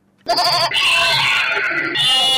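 Sheep bleat loudly at a livestock market in Bobo-Dioulasso, a few wavering calls running into one another almost without pause after a brief quiet start, with no talking.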